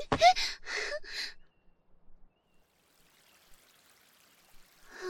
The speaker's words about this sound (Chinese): 这小溪真美，在这里洗澡吧。